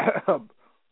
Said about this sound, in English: And he coughs and has to clear his voice again with that pathetic storyline of them saying he could only talk through a voice box.